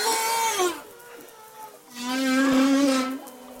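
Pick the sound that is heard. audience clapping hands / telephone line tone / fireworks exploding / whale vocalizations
whale vocalizations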